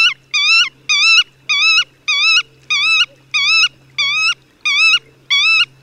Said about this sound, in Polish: Zaniepokojony ptak siedzący na ziemi wydaje natomiast serię pojedynczych, płaczliwych sylab.